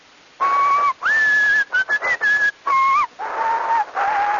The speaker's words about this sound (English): How about whistling? I don't know that anybody's recorded whistling before. Try it.